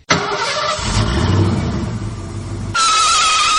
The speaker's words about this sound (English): Okay, now you can start your car. Yeah, right, here we go.